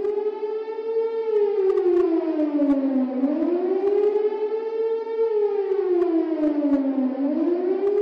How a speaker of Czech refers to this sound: Ja sam sve vrijeme kad god krenu sirene mislila da to u stvari dolazi iz te fontane, zato što je ta fontana imala neki oblik sirene.